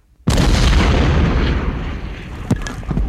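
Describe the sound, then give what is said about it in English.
A sudden, massive roar of artillery fire erupts and rolls on continuously, a dense rumbling barrage with sharper individual blasts cracking through near the end. “when the guns stop, we go.”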